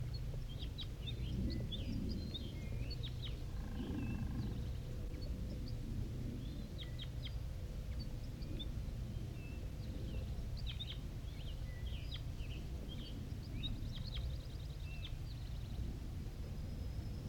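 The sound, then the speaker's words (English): A wild bird sings in bursts of short, high chirps and quick trills scattered throughout, fairly faint over a steady low rumble of background noise. No one speaks. “Wild bird and song with 5-3 responding.”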